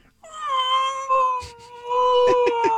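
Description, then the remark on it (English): A voice imitates coyotes heard outside a window at about 10:30 at night, a sustained, high-pitched, wavering cry that slides slightly downward, not quite a full howl, with a few breathy catches near the end and no talking. “And it's this annoying, high-pitched, like, crying, not fully howling. You know, because they're coyotes.”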